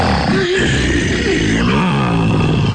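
A gray wolf growls deep and loud, a rough, rumbling snarl that carries on for about three seconds, with no talking over it.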